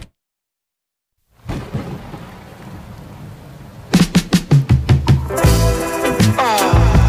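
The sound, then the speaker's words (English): After a moment of silence, a steady, even hiss of rainfall begins. A few seconds later, rhythmic music starts playing over the rain. “Speaking of water. We got music. Rain.”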